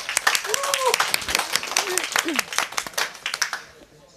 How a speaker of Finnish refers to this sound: Tervetuloa myös yleisö täällä Oodissa. Alkuaplodit teille ja keskustelijoille.